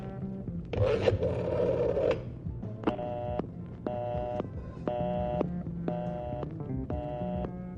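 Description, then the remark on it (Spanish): Telephone keypad dialing as someone phones for people to come and open a locked door: a short rustling scrape, then five evenly spaced electronic beeps, each about half a second long, sounding clear with no voices. “Ahorita llamo por teléfono para que vengan a abrirnos.”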